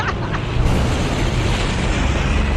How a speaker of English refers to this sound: something like a thunder there. And a broken piece of glass flew by.